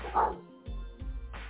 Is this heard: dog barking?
yes